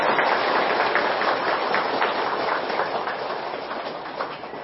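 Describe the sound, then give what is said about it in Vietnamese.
Sustained, dense clapping from a large audience at a dharma practice session, applauding in praise, a steady crackling wash of many hands that holds strong for several seconds before easing slightly. No voices are heard. “Cho một tràng vỗ tay thật lớn để tán dương.”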